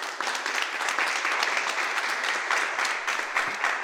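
Sustained applause from a crowd, a dense steady patter of many hands clapping at once, fairly loud and close, with no voices over it for the few seconds it lasts.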